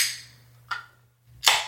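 A 16-ounce drink can cracks open with a short metallic click, then a sharp burst of hissing carbonation that fades off. No one speaks, and a low steady hum runs underneath.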